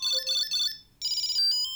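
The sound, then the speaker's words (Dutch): A Tile Bluetooth key tracker, rung through Google Assistant to find keys, rings with a bright, high-pitched electronic melody: three quick chirping bursts, a brief gap, then a longer warbling run of tones. No one speaks. “I'm ringing your keys, one.”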